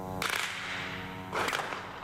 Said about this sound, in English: Gunfire and shelling can be heard.